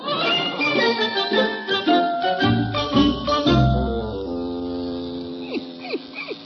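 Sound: electric razor buzzing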